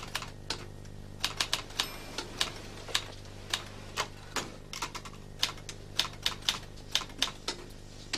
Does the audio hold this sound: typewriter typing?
yes